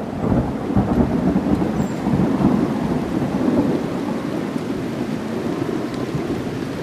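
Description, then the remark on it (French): A thunderstorm with steady heavy rain, a dense continuous hiss and low rumbling that stays loud and even throughout, with no voices. “Et cela n'arrive que quand il pleut.”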